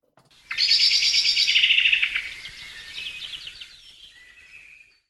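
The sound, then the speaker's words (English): A blackbird's alarm call: a loud, rapid, chattering rattle of sharp notes that runs for a few seconds and gradually softens and trails off. No voices. “A familiar one is the blackbird, the alarm call quite unlike its mellifluous song.”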